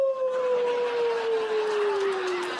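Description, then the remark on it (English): A person imitates a wolf howl, holding one long, loud, steady vocal tone that slowly glides downward in pitch for a couple of seconds, with no talking. “I howled at the baby wolf so it wouldn't feel like it was alone.”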